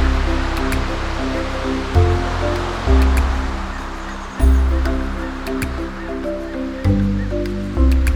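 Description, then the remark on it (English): Ocean water washes and swirls steadily with a few splashy surges as snorkelers in masks, snorkels and fins jump in at a coral reef, beneath a bed of sustained, shifting musical tones, with no voices. “Let's put on our masks, snorkel and fins and jump in.”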